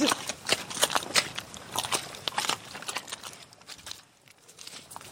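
Squelching, sliding footsteps in thick, sticky, claggy mud from someone walking with poles, a string of wet, irregular steps with slurping and crackling textures between them and no talking.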